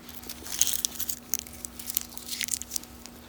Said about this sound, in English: And I'm going to get this cough drop in because I feel it coming on. I hope that doesn't rattle the microphone.